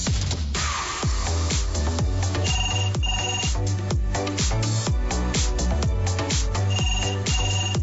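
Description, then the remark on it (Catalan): A phone rings with an incoming call during a live broadcast: a loud musical ringtone, a steady thumping beat and bright melody repeating continuously for several seconds, with no one speaking. “No cal que ens truqueu, perquè una vegada més, durant el directe, he d'agafar aquesta trucada, que no l'hauríem d'agafar.”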